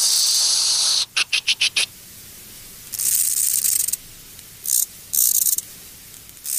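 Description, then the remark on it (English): A conehead bush-cricket's high, airy hissing song in the wild: a steady buzz, then a burst of five quick pulses in a gear change, followed by longer hissing stretches broken by short gaps as the rhythm shifts. “In the wild, a soft, gentle hissing noise, and then the gear change, something like...”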